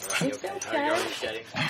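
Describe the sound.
A dog gives a few short whining yips in quick succession, mixed in with people talking.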